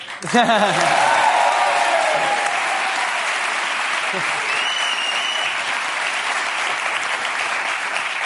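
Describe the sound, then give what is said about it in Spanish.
An audience breaks into sustained applause, a dense wash of clapping that stays steady and loud for several seconds, with a few faint voices and cheers mixed in at the start. “Me han aplaudido la primera porque aquí la gente es de bronce para arriba, todos los que están”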